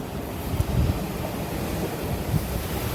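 Waves washing onto a beach in a steady, unbroken hiss of surf, with a low wind rumble underneath and a few slightly louder swells. Someone sits alone on the beach. No one speaks.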